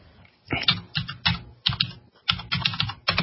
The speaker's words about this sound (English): has the noisy keyboard, you notice.